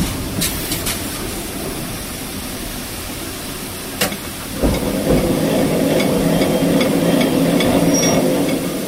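A locomotive at the end of a station being shifted into forward gear: a few sharp metallic clunks over a steady mechanical hum, then a heavier, louder rumble settles in partway through. No one speaks.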